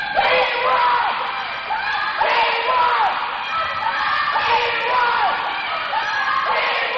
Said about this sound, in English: Students are picked up from schools in Jonesboro and brought to City Youth Ministries, where kids are checked in and put into a basketball gym. The kids are then put in different groups and friendly shouting wars begin.